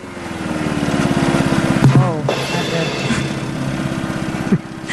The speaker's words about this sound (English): The actual lawnmower went with my joke. It was perfect. It started going down.